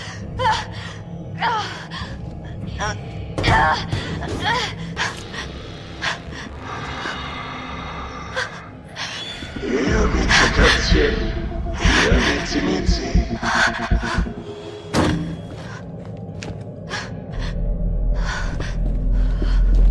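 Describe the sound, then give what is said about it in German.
Heavy, ragged breathing with sharp gasps, loud, repeating in uneven bursts over about twenty seconds with no talking. “Dann hörte sie das Atmen hinter sich.”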